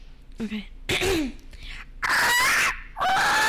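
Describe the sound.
A person imitates a parrot with a run of loud, harsh squawks and screechy chirps, rising and falling in pitch across several bursts, with short pauses between them.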